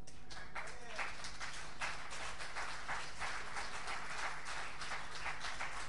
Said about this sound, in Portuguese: Dê um aplauso a Jesus.